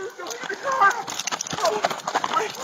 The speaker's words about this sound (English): That sound at the end is the deputy using his baton to smash out the windows.